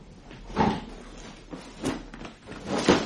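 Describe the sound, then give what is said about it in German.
A drawer of a dresser is pulled open and searched, with three distinct wooden clunks and scraping bursts spaced about a second apart, fairly loud, with no one speaking. “Versuch mal die untere Schublade.”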